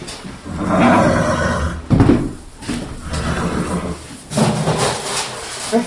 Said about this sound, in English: She's 14, and I got her when she was 10 months old. She's the horse I ride.